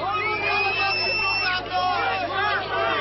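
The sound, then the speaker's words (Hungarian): A large crowd occupying a blockaded bridge shouts and jeers at a man arriving on the scene, many voices overlapping in a loud, continuous din that swells and dips slightly over a few seconds, dense throughout. “Nem sokkal később megérkezett a helyszínre Demszky Gábor is, de a tömeg trükkel és kiabálással fogadta.”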